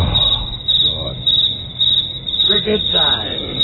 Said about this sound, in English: Cricket time. Boring. Cricket time. It takes so long, too. It's so delayed. The bad joke is so delayed.